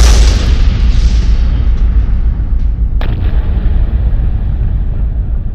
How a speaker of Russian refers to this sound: Пламя охватило чан. К счастью, шансы, что в таком взрыве кто-нибудь уцелеет, равнялись точнёхонько единице на миллион.